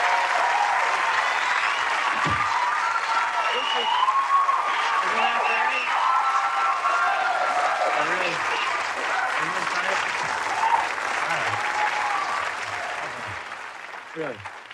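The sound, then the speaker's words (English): A studio audience applauds loudly and steadily for about twelve seconds as Gilda Radner appears on a television show, with scattered voices and cheers mixed in, before the clapping tapers off at the end. “Don't milk the applause like that.”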